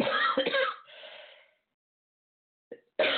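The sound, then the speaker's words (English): A raspy throat clearing with a few harsh cough-like bursts trails off into silence, then a short catch of breath and another rough cough begins at the end. “I was able to hold my coughing in for almost 15 minutes, but that was the top of the line.”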